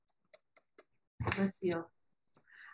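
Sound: sneeze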